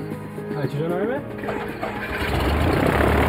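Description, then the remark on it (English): An airplane engine cranks and catches, its pitch sweeping upward as it spins up, then settles into a steady, rumbling roar as the plane heads down the runway, growing slightly louder toward the end. “Yates fired up the engine, and the plane was headed down the runway”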